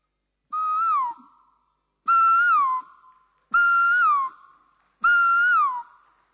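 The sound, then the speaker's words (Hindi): A person whistles an imitation of a koel's call four times in steady succession, each a clear, fluting note that rises slightly then slides downward, with brief pauses between and no talking. “अभी कोयल का आवाज।”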